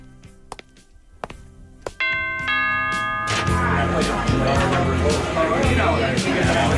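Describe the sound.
A few sharp taps, then a two-note doorbell chime rings out at the door of a house where a party is under way, quickly swallowed by a loud wash of party noise with chattering voices and music.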